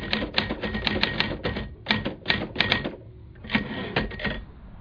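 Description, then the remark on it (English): Rapid clacking of the keys of a very big manual typewriter in uneven bursts, fairly loud, heard around a house, with a brief pause before the typing resumes. No one speaks. “He had this very big manual typewriter, which you could hear as well around the house, the clacking of the keys.”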